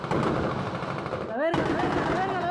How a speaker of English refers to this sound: With music blaring and phones filming, gunmen with machine guns and rocket-propelled grenades raced to the rescue. They deployed a 50-caliber machine gun that's so heavy it's attached to the back of a truck.